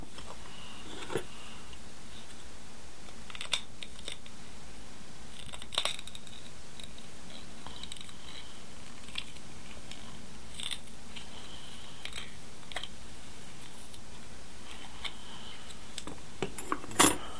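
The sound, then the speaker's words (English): Crisp snips of scissors cutting around the edges of a wound, a handful of sharp metallic clicks spaced irregularly over a quiet background, with a quick cluster of snips near the end. “The scissors.”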